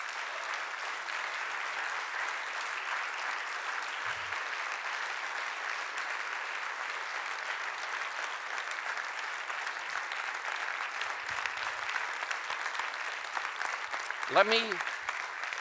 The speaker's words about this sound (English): Let me explain the behavior of these people. You say, why are they clapping? Well, I tell you, they know life is full of decisions, as you well know. But this is the big one.